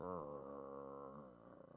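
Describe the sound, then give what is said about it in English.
A person imitates the low, rumbling growl of a dog guarding a bone, one sustained vocal snarl that turns into a pulsing, throaty rattle near the end, with no other sounds around it. “Have you ever gone anywhere near a dog who's got a bone? You remember the noise it makes?”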